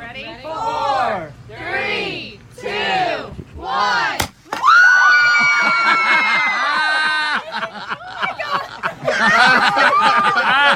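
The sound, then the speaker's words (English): At a gender reveal in Tennessee, a single sharp pop cuts through the excited chatter and laughter of loved ones, followed immediately by a loud, sustained burst of screaming and cheering from the crowd that keeps going to the end. “And you will hear the pop, but you will also hear the sympathetic crowd of their loved ones.”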